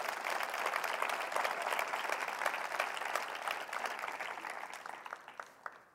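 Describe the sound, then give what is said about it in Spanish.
A church audience bursts into sustained applause for Christ, a dense wash of many hands clapping at steady volume that thins and fades out over the last second, with no voices over it. “Dale un aplauso a Él.”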